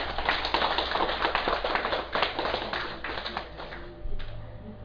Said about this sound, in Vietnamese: Cho nên quý vị cũng nên vỗ cho mình một tràng pháo tay chứ.